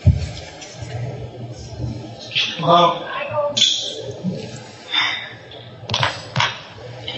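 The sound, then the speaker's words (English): Papers rustle and shuffle in a courtroom in irregular bursts, with occasional sharp crinkles and taps, while muffled voices murmur underneath. “We did our best to try and clean up the audio for you a little bit, removing white noise and things of that nature so it can be heard a little bit better, but you will hear some shuffling of papers and such while you listen to this.”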